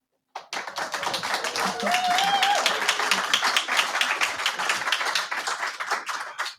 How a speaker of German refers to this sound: Und an unsere Zuhörerinnen, nein, der Applaus ist nicht eingespielt. Wir sind hier in der Aula der Volkshochschule Reutlingen und freuen uns wahnsinnig, hier sein zu können.